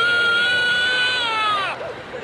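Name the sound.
infant crying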